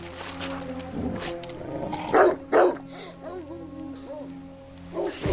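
A dog named Churchill barks twice in quick succession at the water by the edge of a loch, loud, with a fainter bark near the end, all over a steady low droning hum.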